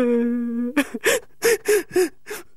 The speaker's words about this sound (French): Non mais c'est quoi ce bordel là? Il y en a un qui pleure dans le coin.